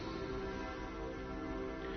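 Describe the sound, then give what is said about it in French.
Cathedral church bells ring steadily during a Mass, their overlapping tones blending into a continuous, faint wash of sound with no one speaking. “Peut-être entendez-vous les cloches de la cathédrale.”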